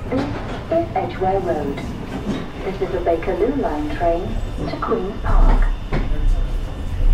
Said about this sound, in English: This is Edgware Road. This is the Bakerloo line train to Queen's Park.